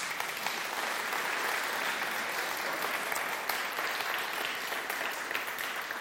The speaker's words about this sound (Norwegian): Vi gir deg en klapp